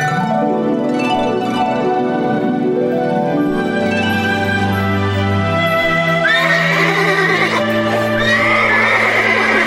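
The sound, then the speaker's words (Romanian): Horses being summoned, one for each girl and boy, whinny loudly, with several overlapping high, shrill neighs running almost continuously, growing brighter and more excited near the end. There is no talking. “Îndată voi chema cai frumoși pentru fiecare fată și pentru fiecare băiat.”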